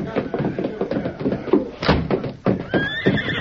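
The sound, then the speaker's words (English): A horse whinnies loudly with a high, wavering neigh toward the end, one of the horses Tonto brought round back in a radio drama, amid busy clattering and thumping and faint voices in the background. “Me bring horses round back.”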